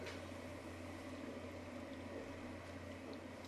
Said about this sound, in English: I think it has to boil yet. It's not boiling? One more minute.